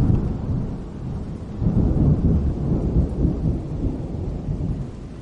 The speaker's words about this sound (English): the rain has really set in right now.